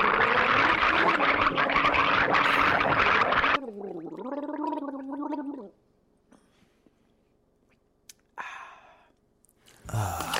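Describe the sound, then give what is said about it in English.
A voice imitates bathwater running out down a drain: a loud, rough, sputtering gargle, then a wavering, hollow hum that fades, followed by a few short breathy bursts. “The bathwater running out.”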